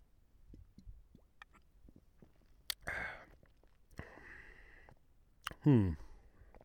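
Someone sips a Stiegel-type lager beer from a beer calendar: a few soft clicks, then two wet slurping sips and an audible swallow, with no talking.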